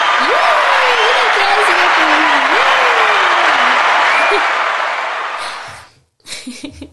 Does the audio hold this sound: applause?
yes